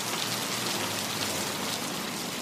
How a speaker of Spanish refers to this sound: Ese día fue una de las tormentas más grandes que Bogotá haya visto.